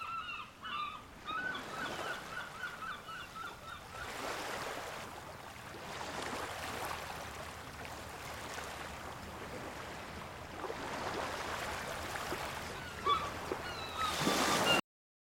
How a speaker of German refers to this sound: Das Meer brandet in regelmäßigen Abständen an den Strand.